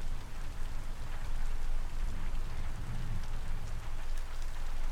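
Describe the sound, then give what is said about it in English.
Steady storm rain pours without letup, a dense, even hiss of drops striking a surface over a low rumbling undertone. It is fairly loud and constant throughout, with no voices. “Storm is not gonna bother you.”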